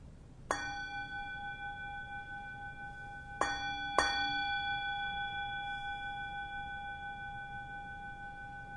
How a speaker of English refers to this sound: And I'll start with the sound of the bell, but then we'll move just to the sounds that are in the room without me ringing the bell.